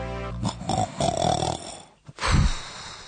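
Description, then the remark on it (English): A person snores loudly, with rough, rattling breaths that rise to a harsh snort, a brief pause, then another deep, gravelly inhalation. No one speaks. “A familiar sound, it certainly is to me. Good grief. Snoring.”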